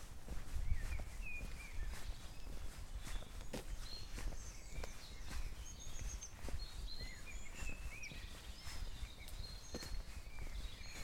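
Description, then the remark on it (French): Steady footsteps crunch along at a walking pace on the way to the airport just after sunrise, while several birds chirp and sing throughout, their calls bright and scattered against a quiet outdoor backdrop. No one speaks. “Le soleil vient de se lever, tu marches, un peu, avec les oiseaux.”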